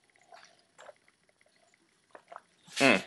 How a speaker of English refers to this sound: And I'm going to pour myself a glass of water, because when it's just me talking, goodness gracious. Yeah. 1 second.